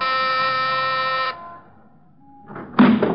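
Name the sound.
doorbell ringing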